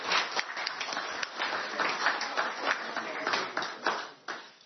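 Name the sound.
applause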